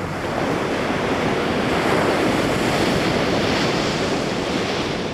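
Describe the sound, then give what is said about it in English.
Ocean waves wash steadily onto a beach during a late-summer family beach vacation, a dense, continuous roar of surf with a soft windy hiss and no clear individual breaks. No one speaks. “Right now, for example, I'm enjoying a few last days of summer during a beach vacation with my family. So this is how my life sounds.”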